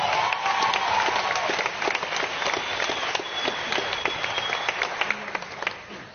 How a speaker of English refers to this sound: And I think it's an incredible cause, and I think the Cliff Central team need another big round of applause.